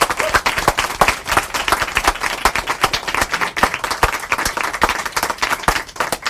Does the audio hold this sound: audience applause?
yes